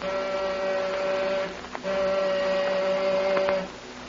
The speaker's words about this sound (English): I'm going to try the buzzer.